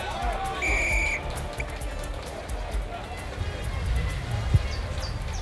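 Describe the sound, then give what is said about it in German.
A referee's whistle gives one short, shrill blast near the start, starting the match, heard over a busy crowd murmur and background voices, with occasional thuds and movement on a playing field. “Dann pfiff der Schiedsrichter das Spiel an.”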